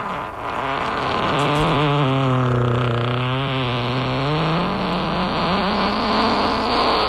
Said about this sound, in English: He is our gassiest kid, so if we could, let's get a big old fart.